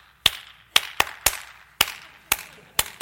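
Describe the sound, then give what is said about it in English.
A synthetic clap sound effect played over arena loudspeakers to get Oilers fans clapping: eight sharp, bright claps in a steady, slightly syncopated rhythm, each with a brief ringing tail, and no voices. “There was that fake clap sound going over the speakers.”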